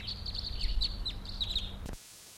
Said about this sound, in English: Wild bird in flight.